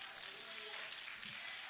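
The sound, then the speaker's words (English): A live church audience at Deliverance Temple claps and cheers steadily, a dense wash of applause holding at an even level for the whole short stretch, with a brief voice rising faintly underneath near the end. “Let us say amen and cheer for our live audience.”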